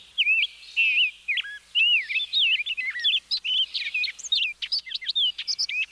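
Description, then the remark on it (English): A lively chorus of hundreds of migrating songbirds, including rose-breasted grosbeaks, orchard orioles, painted buntings and warblers, singing at once in oak trees a quarter mile from the Texas coast in mid-April after rain: overlapping chirps, whistles and warbling phrases tumbling over each other in a bright, continuous tangle. “Birds. Hundreds, thousands of birds. Rose-breasted grosbeaks. Orchard orioles. Painted buntings. Warblers.”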